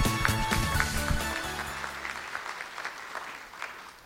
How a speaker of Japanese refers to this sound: どうぞ大きな拍手でお願いいたします。